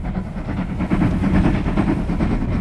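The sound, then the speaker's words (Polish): A railway carriage rumbles and clatters steadily along the tracks, a continuous loud rolling noise with repeating rhythmic clacks and no voices. “Pociągi w życiu Leonarda Teodora Zawadzkiego pojawiały się nieraz.”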